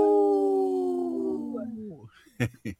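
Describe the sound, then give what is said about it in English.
A person imitates a wolf howl on the Native Roots Radio show I'm Awake: one long, steady, mid-pitched wail held for about two seconds that slowly sinks and fades, followed by two short, sharp vocal bursts. “I saw your neck went up like a wolf.”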